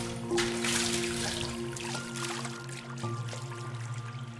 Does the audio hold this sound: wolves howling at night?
no